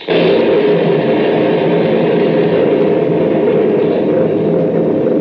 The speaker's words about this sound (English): Yes. Thunder. Thunder and darkness around me.